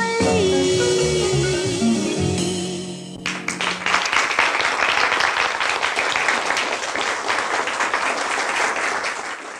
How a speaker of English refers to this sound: That's either some very polite or very lackluster applause at the end of that.